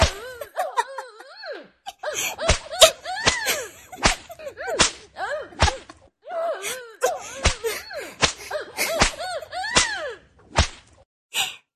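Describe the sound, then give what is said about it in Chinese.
About a dozen sharp whip lashes strike a person at an irregular pace, loud, while a voice lets out high, wavering moans and gasps between the strikes. “果然是个变态啊，竟然被鞭子抽还能抽到高潮。”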